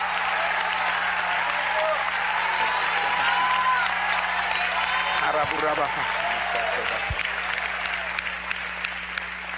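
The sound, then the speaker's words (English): An audience at a church worship service claps their hands to praise the Lord in a dense, sustained burst of applause that stays loud throughout, with scattered voices calling out beneath the clapping. “If you can clap, let everybody clap. Clap your hands.”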